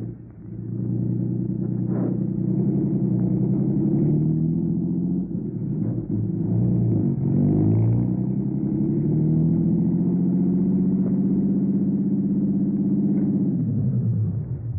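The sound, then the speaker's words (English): A car engine rumbles steadily as the vehicle drives to a rooming house on Garfield, a low continuous hum with shifting pitch as it changes speed, nobody speaking over it. “Okay, my car's downstairs.”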